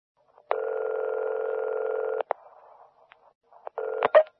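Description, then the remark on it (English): A steady, unbroken dial tone hums for nearly two seconds, followed by a few clicks and then a short burst of dialing beeps as a phone number is keyed in to call an ambulance. No one speaks. “We should call an ambulance, too.”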